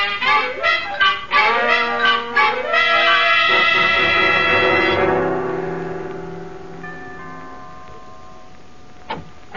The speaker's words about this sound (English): And I could have sworn someone rang the bell.